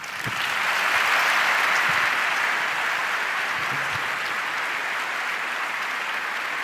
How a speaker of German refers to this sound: euer Applaus.